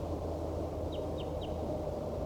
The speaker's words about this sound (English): There appears to be another wild bird down the hollow calling back.